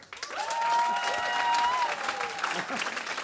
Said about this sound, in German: Darum bitten wir jetzt um einen schaurig schönen Applaus für Dr. Horror.